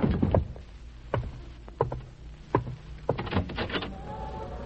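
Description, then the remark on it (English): A door is opened with a series of sharp knocks and clunks spread across a few seconds, followed by a faint creaking and a soft whistling tone at the end. “Don't open that door.”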